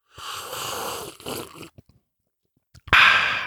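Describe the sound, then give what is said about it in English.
Two long, airy slurps of coffee, loud, separated by a short pause, with a few faint clicks and sips between them and no talking. “I used to slurp my coffee at the start of most of the episodes.”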